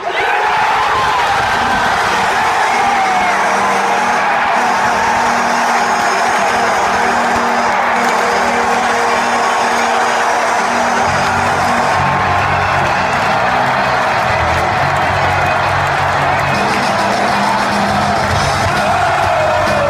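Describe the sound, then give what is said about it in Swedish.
An NHL hockey arena goal horn blares with a deep, sustained bellow beneath a loud, continuous roar of crowd cheering and whooping that never lets up for the whole stretch. “samtliga NHL-lag har ju de här egna brölande signalhornen”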